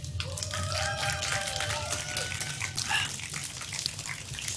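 Steady applause from an audience welcoming a guest, a dense wash of clapping that fills the whole stretch, with a few whoops and whistles rising above it.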